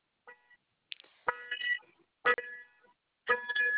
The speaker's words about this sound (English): Sorry, my car alarm. I'm sorry.